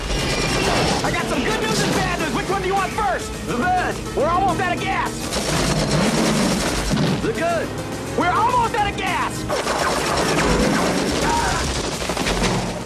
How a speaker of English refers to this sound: They speed into a barrage of fire.